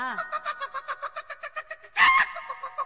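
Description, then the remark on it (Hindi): A rapid, steady series of clucks from roosters and hens kept in a coop, about a dozen short pulses in a row, ending with a louder squawk, with faint cackling after. “उ दरबा में मुर्गा मुर्गी ने रखले बई जब खाए के मन करला तब एको के काट दीना।”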